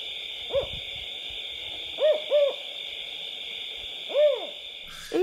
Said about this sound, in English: And when I was in grad school, I was doing some research out in the Sierra Nevada in California on the cutest, cuddliest creature there is, the California spotted owl.